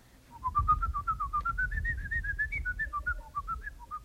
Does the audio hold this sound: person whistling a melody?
yes